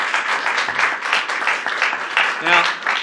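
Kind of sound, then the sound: crowd, audience applause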